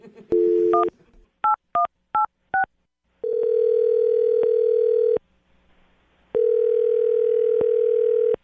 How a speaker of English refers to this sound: I'm going to dial the phone number right now, and you can make your Awkward Tuesday phone call